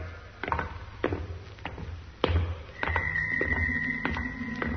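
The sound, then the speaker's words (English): A few heavy, irregular thuds, then a steady mechanical grinding hum with a whining tone sets in and continues as a heavy door slides shut. No voices. “There's that noise. What the... It's all right, Doc. It's the door. It's closing again.”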